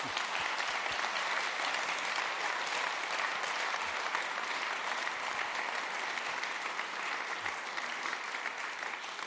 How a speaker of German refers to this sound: Ich glaube, jetzt hat er sich wirklich einen großen Applaus verdient, sehr engagiert, sehr.